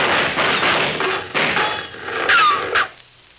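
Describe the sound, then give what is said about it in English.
In a Red Ryder radio western, a rapid, irregular string of sharp gunshots from Murderer's Gulch, several loud cracking bangs in quick succession with short ringing tails, and no voices. “Them were shots.”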